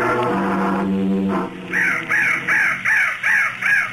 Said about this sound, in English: That crow was the bird of death. Of course, I don't believe in Indian superstitions, but if I hadn't shot that bird, maybe Mr. Arryn wouldn't be dead now.